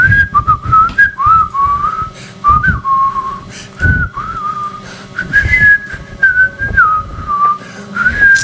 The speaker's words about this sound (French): Je peux siffler. Vas-y.